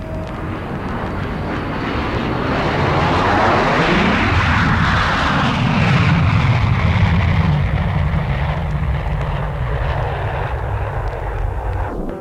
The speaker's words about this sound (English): Hold your breath. It's time for a jet to bore a hole in the sky. Right now.